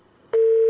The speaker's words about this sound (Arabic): التليفون قطع.